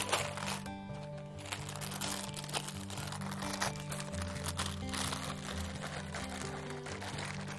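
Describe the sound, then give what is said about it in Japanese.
Continuous crinkling and rustling as baking paper laid on top of a freshly baked sponge cake, cooling on a wire rack after coming out of the oven, is peeled away, with soft background music playing steadily underneath. “一回上に 紙を引いて一回剥がします。”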